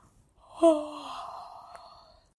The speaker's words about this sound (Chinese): 他太困了，一直打哈欠。